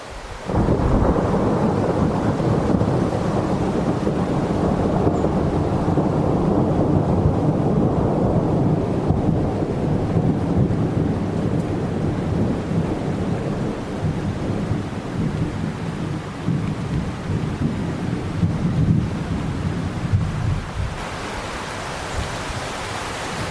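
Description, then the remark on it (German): A thunderstorm with heavy, continuous rain and deep rolling thunder rumbling steadily in the low end, dense and fairly loud throughout, easing slightly near the end. No voices. “Ihr hört richtig, es gibt Unwetter.”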